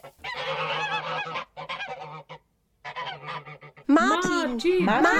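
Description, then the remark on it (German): Loud, raucous honking from a flock of geese in a goose shed, a dense overlapping chorus with a short pause midway, then sharper, more strident calls at the end. “Solch ein Getöse bleibt nicht lange unbemerkt und der Ruf der Gänse wird von der Menschenmenge draußen aufgenommen.”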